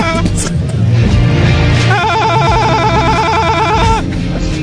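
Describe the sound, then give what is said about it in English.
A hotel room telephone rings with a loud electronic warble, one sustained trilling burst of about two seconds that follows a stretch of low rumbling background noise. “Is that the most annoying sound in the world? That's my hotel phone”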